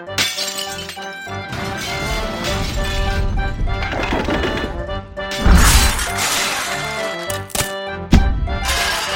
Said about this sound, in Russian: Меньше чем через минуту раздался грохот упавшего самовара и звон разбиваемой посуды.